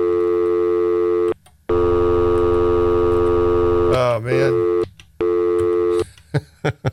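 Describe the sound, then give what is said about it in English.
Loud, steady phone-line tones heard over a radio board handling two calls switch on and off in long bursts, like a busy signal after dialing, with a man's brief exclamation and a few clicks cutting in partway through. “We got the phone call here, so we'll give it a try and see how screwed up this is going to sound on the board with two calls.”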